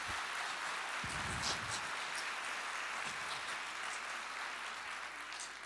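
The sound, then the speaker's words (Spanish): An audience applauds, a dense, steady wash of many hands clapping that holds at an even loudness for several seconds, with a few brief voices or cheers rising underneath early on. “Que alguien aplauda de todo corazón.”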